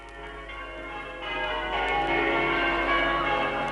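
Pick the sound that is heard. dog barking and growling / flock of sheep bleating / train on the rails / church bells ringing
church bells ringing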